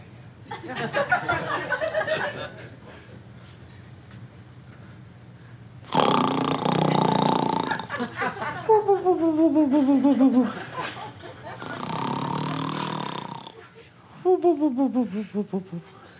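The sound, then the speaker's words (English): A man snores loudly and exaggeratedly, repeating in cycles: a harsh rasping breath in, then a long groaning, voiced rumble out, about four rounds with no talking. “Is he going to snore like that the whole time?”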